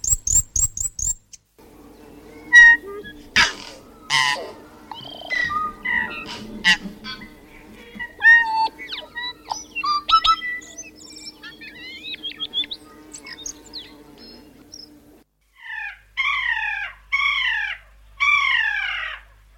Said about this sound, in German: Wir spielen euch mal ein paar dieser erwähnten Vögel ein. Zuerst der Fantail, der Pee Waka Waka, dann der Tui und dann der Kia.